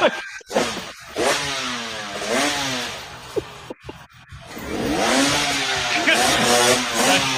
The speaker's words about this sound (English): So it's basically a guy who's on a dirt bike that's suspended from the ceiling of his garage, and he's sitting on the bike and he's just revving it as the rear wheel touches the ground,